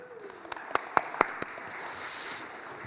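A handful of sharp, separate hand claps ring out in a quick, uneven rhythm, then give way to a soft, steady wash of faint applause that swells slightly near the end.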